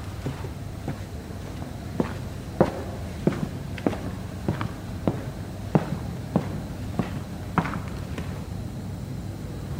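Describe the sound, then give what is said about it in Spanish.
A man's firm, heavy footsteps thud at a steady walking pace in Hospital Fiorito, about a dozen distinct impacts over a low constant background hum, with no voices. “Los pasos que escuchamos”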